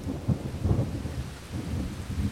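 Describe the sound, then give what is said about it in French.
A low, rolling rumble of thunder during a thunderstorm in Creuse, France swells and recedes over a steady hiss of rain, deep and continuous for the whole stretch with no voices. “Enfin, il y a de l'orage.”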